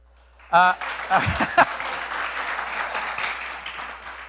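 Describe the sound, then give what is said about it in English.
A crowd breaks into scattered applause, many hands clapping at once in a dense, steady patter that swells quickly and then holds at a moderate level, with a brief voice sounding at the start. “Thank you for the obligatory clap.”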